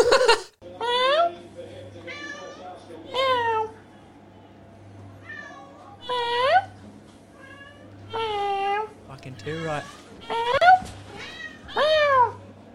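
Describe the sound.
A person imitates a cat to talk to a cat, with a long run of loud, drawn-out meows, about ten in quick succession with short pauses between, over a faint steady hum.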